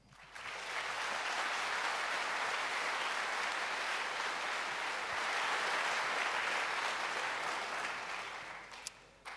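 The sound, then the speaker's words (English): A conference audience applauds steadily for about nine seconds, welcoming a team presenting work on the Nintendo DS; a dense wash of clapping at an even, sustained loudness that tapers off near the end. “Okay, today we got a team which deals with the Nintendo DS, so give a warm applause for Pluto, Derek, and Smear.”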